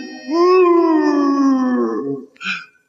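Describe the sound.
A human voice imitates a dog's howl: one loud, drawn-out wail that rises briefly, then slowly sinks for about two seconds, ending with a short breathy yelp.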